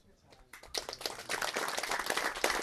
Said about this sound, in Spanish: Para la compañera Betty Cariño, una compañera también muy luchadora indígena, le vamos a dar un aplauso por esa gran lucha.